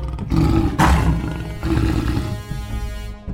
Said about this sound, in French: Un rugissement retentit.